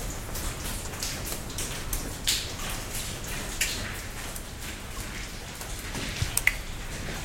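Water seeping in during heavy rain outside drips steadily onto a stalactite in a cave, an irregular patter of many small drops over a soft hiss, with a few sharper plinks near the end. No one speaks.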